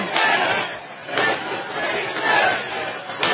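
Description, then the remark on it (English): A large crowd chants in unison, loud and dense, with rhythmic swells about once a second as the voices rise and fall together, while a woman speaking to them drinks water and coughs. “I know they're covering for her, chanting things while she's drinking more water and coughing.”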